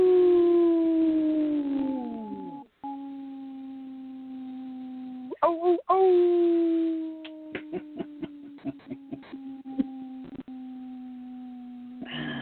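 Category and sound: vocal imitation, people imitating wolf howls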